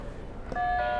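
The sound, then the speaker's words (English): A buzzer is pressed, letting out a steady, fairly loud electronic tone with a bright, slightly harsh timbre that starts abruptly halfway through and holds until the end, over low background noise. “Can you press the buzzer?”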